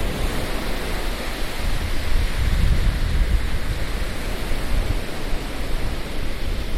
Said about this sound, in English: The sun has already set. There's still some light in the sky. It does smell here. It smells like the ocean. We are standing right on the edge of the waves.